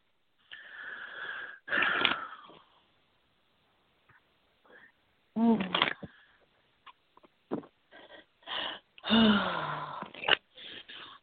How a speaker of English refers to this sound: I had to breathe through that one just so I can get that energy, okay?